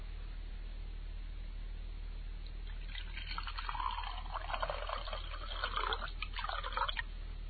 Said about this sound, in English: Would you like some wine, too? Oh, I'd love some, yeah. Okay. Let me pour it for you. Oh, please, yeah.